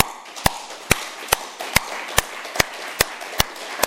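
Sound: audience applause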